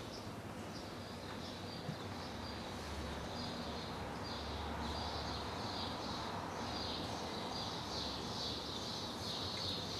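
Birds sing in a steady, continuous chorus of high chirps and trills over a low outdoor hum, with no voices present.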